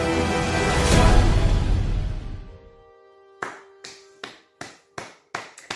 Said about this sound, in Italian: Scusate, ma è da quando è finito il film che sto applaudendo. Incredibile.